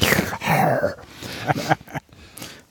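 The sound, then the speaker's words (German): Heavy, snorting breaths heard over a call line rasp in several rough bursts, with a low, moaning vocal tone mixed into the first part. “Ich bin ganz kurz irritiert, weil wir hier so einen Darth Vader Sound in der Leitung haben.”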